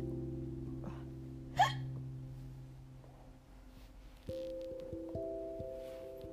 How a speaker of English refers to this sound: Burp.